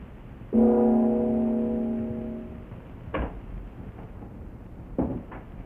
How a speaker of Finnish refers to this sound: Vihdoinkin avautuu ovi ja Matami astuu esiin.